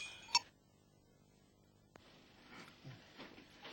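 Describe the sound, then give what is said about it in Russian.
Small bells jingle faintly: one bright metallic ring at the start, a pause broken by a single soft click, then a cluster of quiet, irregular tinkles with soft shuffling beneath. “Это сумма колокольчиков.”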